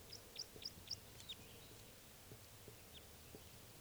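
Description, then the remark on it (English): A male bird's flight song: four sharp, high-pitched notes in quick, even succession, then a fainter trailing call, over a steady low background rumble with no talking. “Oh, and here comes another male in flight song.”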